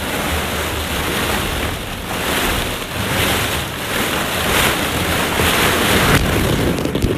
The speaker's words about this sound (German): Und dann, ihr werdet gleich schöne Sounds hören, wie ich nur mit Socken durch ein Bällebad laufe. Hört mal rein.